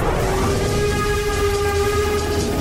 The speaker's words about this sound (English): This is a steam train. It's powered by coal. That's a type of fossil fuel.